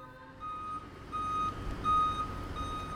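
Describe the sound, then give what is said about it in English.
A shuttle bus taking worshipers after Mass backs up, its reversing alarm sounding a steady series of high, clear beeps over a low engine rumble, with no voices. “Following Mass, several worshipers boarded a shuttle bus to embark on the traditional visit to seven churches,”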